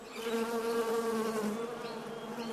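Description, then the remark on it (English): A steady, dense drone of many honeybees buzzing together, continuous for the whole stretch with a humming, slightly wavering pitch and no voices. “Oh, bees, of course. Honeybees, to be precise.”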